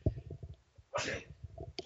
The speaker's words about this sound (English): Had to sneeze there.